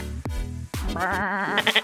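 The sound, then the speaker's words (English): A woman imitates a sheep, giving a wavering, nasal bleat with a shaky vibrato, preceded by a couple of low thumps and ending in a few choppy, breathy pulses. “Because this thing, we asked her to do a sheep impression.”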